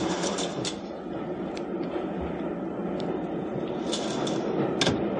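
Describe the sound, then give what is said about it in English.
A sliding door on a train carriage rattles open over the steady rumble of the moving train, with a few sharp clicks and knocks along the way. “She was in a carriage by herself, and she showed no particular surprise when I slid open the door and went in.”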